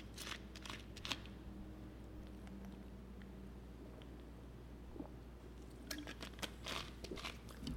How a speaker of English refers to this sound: So let me take a sip of this Mountain Dew Zero.